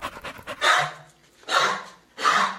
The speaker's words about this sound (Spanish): En ese momento, apareció el dueño. Encontró al perro jadeando y con un ataque de tos.